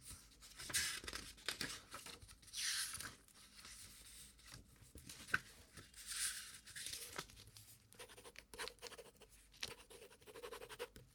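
A pen scratches steadily across paper in bursts of quick strokes with brief pauses between, fairly quiet with no voices, as an interview record is written down.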